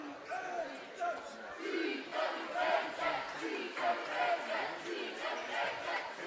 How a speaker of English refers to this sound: Oh, yeah, great crowd tonight. So a real nice crowd from Kenton.